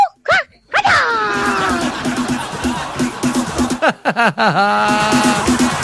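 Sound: dog barking and whimpering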